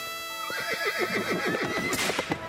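A horse neighs loudly, a single long whinny with a rapid quavering warble that rises and then trails off, heard on its own without any voices.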